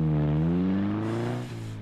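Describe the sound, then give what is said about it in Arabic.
A car engine hums steadily and loudly, its pitch climbing as it revs and accelerates, then dipping briefly as it shifts before driving on. No voices are present. “في اللحظة الأولى التي دخلت السيارة تراءى لي أنهم رجال الأمن.”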